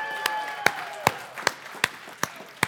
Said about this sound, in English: So somebody gets baptized, they come up out of the water. So what are we going to do? We're going to clap and cheer.